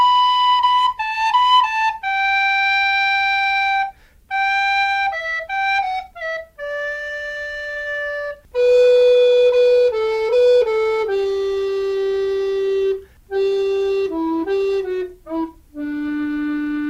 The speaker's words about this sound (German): Ermöglicht werden die dünnen Bohrungen, weil die Sigo aus dem 3D-Drucker kommt. Hier nochmal der Unterschied. So klingt die Standardblockflöte und gleich danach hören wir die Sigo.